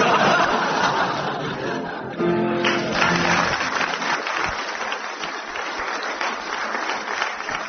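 Loud, sustained audience applause fills the whole stretch, a dense crackle of many hands clapping, with a brief swell of laughter or cheering near the start before the clapping continues steadily.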